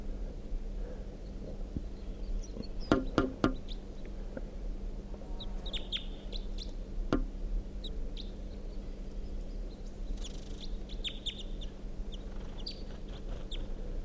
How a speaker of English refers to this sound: So we're going 9:05 a.m. and there's a wild male crossbill here, singing from that dead tree next to the net site.